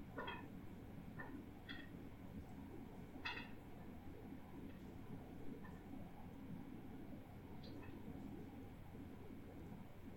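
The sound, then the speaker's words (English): A train rolls into a station with a steady, low rumble throughout, while a few birds chirp in short bursts above the drone. “It's the train coming into the station.”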